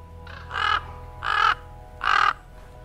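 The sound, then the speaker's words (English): Three harsh, croaking common raven calls sound in an even rhythm about a second apart, loud, each a short throaty burst over a faint low background hum. “For Native American people, the big black bird was the creator of the world.”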